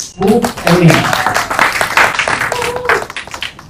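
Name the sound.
audience applause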